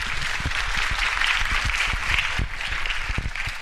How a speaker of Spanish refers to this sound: Entonces, pues bienvenidas y bienvenidos, y bueno, pues un merecido aplauso para esta segunda edición de la Cumbre de Activismo Digital de Lenguas Mayenses.